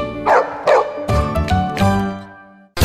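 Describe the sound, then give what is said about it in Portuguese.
A big dog barks twice in quick succession, loud, followed by a ringing, sustained tonal burst that fades out before a sudden sharp sound at the very end. “Ideal para aquele cão porte grande, cheio de energia.”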